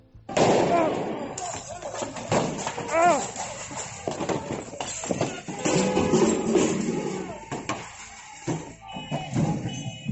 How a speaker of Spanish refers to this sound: Patadas, puñetazos, lanzamiento de adoquines, patinetes a uno que está en el suelo, papeleras, es una locura. Uno de los agentes cae y los manifestantes empiezan a darle patadas con una especie de señal de tráfico o algo. Escucha.